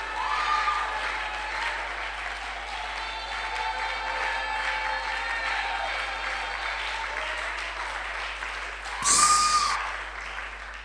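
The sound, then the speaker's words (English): An audience at a church sermon claps steadily in a dense, continuous wash of applause, with a brief louder burst near the end; some murmuring voices mix in beneath the clapping. “Come on, clap. Just clapping is okay.”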